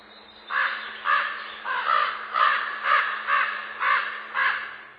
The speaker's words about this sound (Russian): В согласии с бедовыми воронами, которые каркают не по злобе, а от избытка жизни.